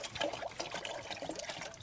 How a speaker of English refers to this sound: So I give him a splash of water now so he can have a little drink.